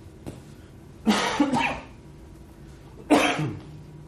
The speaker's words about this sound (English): I have a cough. Hold on a second.